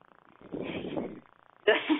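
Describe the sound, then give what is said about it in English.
Heavy breathing picked up by the microphone or phone of someone on a call: a long, soft rushing exhale followed after a brief pause by a sharper, louder breath, both airy and noisy with no words. “Yeah, may I stop you for just, and I'm so sorry, but we can hear somebody breathing.”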